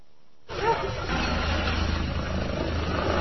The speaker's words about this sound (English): Hear the helicopters?